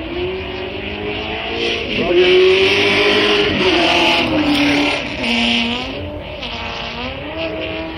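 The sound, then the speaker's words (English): The loud engine of a 1962 Lotus BRM race car, number 18, with fuel injection and a 6-speed gearbox, weighing about 1,050 pounds, roars for several seconds, its pitch climbing and dropping through gear changes as the car goes past. “Roger Ward's driving number 18, another Rich Parnell's cars, a Lotus BRM, fuel injection, 1962 car, another 6-speed gearbox”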